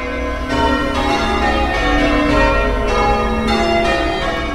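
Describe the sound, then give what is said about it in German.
The bells of St. Dunstan, the oldest church in the Tower Hamlets district, ring out in a steady sequence of overlapping strikes, their tones layering and sustaining into a dense, resonant wash with no voices present. “Wiederum einige Gehminuten und wir hören die Glocken von St. Dunstan, der ältesten Kirche des Stadtteils Tower Hamlets.”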